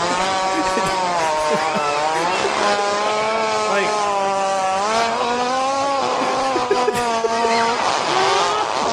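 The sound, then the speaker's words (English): A voice imitates a hippo with a loud, raspy, droning sound like a chainsaw cutting through a log, holding one continuous buzzing growl with a slowly wavering pitch for several seconds. “Have you ever seen those like competitive lumberjack things where they have to like saw a, like a log with a chainsaw? That's what it sounds like. That's what the hippo was doing.”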